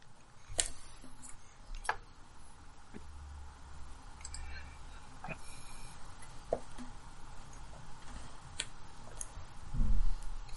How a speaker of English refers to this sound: Ignore the sound of dice rolling.